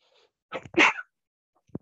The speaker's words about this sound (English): I made him sneeze with excitement.